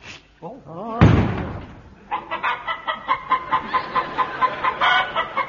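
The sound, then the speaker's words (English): A voice imitates a rooster, letting out a long, rapid run of pulsing, cackling crow-like calls, preceded by a loud sudden thump and a few brief vocal sounds. “It turned him into a male chicken.”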